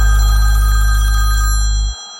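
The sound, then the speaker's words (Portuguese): A telephone rings with a steady, bright trilling tone over a heavy low bass rumble, then cuts off abruptly just before the end. No one speaks. “Não são 5 da manhã, cê me ligando a hora dessa.”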